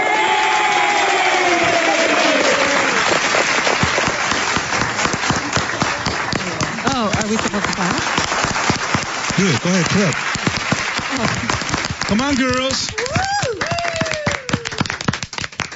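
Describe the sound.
Dense, continuous applause from a crowd fills the whole stretch, with sharp overlapping claps and occasional whoops, while voices talk and call out over it.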